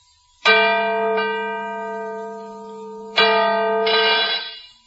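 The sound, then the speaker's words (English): A newly hung cracked church bell is struck twice to test its tone, a few seconds apart, each loud clang ringing out with a harsh, buzzing tone that slowly fades. No one speaks. “The bell is cracked.”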